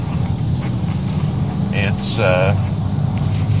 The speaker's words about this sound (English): And it sounds like you're getting a bit of road noise.